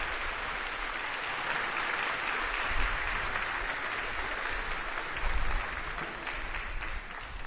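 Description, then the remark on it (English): Sustained applause from a crowd, given in recognition of fathers on a day dedicated to fathers, a steady dense wash of clapping for several seconds with no voices, easing slightly toward the end. “Let's offer our applause by way of recognition.”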